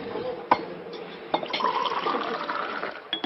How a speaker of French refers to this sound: Oh, je suis maladroit. Excusez-moi. Non, c'est rien, ce n'est que de l'eau. Oui, mais... À bord d'un bateau, ça peut être dangereux, hein.